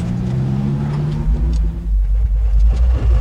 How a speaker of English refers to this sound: Larry Petker cuts quite a figure in his ancient truck, slowly winding through the streets of Canarsie, making his deliveries. My top speed will be about 15, that's it.